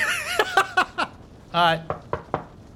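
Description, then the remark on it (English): Two quick runs of knocks on the door to Salome's room, about four raps and then three, moderately loud, mixed in with bits of voiced laughter or vocal sounds. “I open the door. You just open the door into Salome's room? I guess I knock.”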